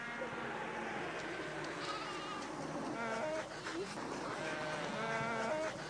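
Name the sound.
sheep bleating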